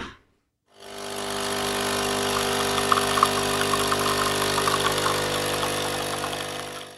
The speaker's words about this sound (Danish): Det, man lige har hørt lyden af, det er altså mig, der her i eftermiddags tager en kop kaffe op på redaktionen.